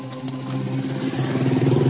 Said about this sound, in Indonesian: Aku lalu menyalakan motor dan bergegas untuk pulang.